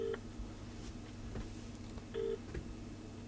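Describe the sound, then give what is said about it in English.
A few short electronic keypad tones beep out one after another at an uneven pace, clear, over a steady low hum with no talking, as a telephone is dialed to phone someone live on air on a radio show. “Neil has instructed me live on air. I'm to phone you up and ask you if you're coming to Alzheimer Research Big Walk on Sunday the 9th of June,”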